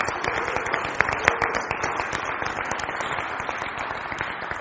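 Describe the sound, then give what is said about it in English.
A crowd applauds steadily for visiting friends from China, many hands clapping at once in a dense, even wash of sound that holds for several seconds without any talking. “Can we give them a round of applause, all these friends from China?”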